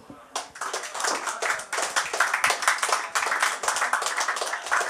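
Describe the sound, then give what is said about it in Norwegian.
An audience bursts into applause, a dense, steady patter of many hands clapping at once that holds at a fairly loud, even level throughout, with no one talking. “Applaus.”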